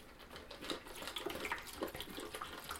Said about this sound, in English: I'm pouring in water into the drinking thingy. It's one of those, you know, one that you can find in the pet store where the water gets sucked up, pumped up to the top of the container, and it drips down,